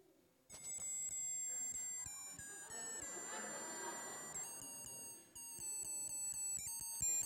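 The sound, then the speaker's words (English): A novelty Christmas tie plays Jingle Bells as a tinny, beeping electronic melody of bright high notes in a steady rhythm, with a burst of noisy murmur rising underneath midway. “Okay, it plays Jingle Bells.”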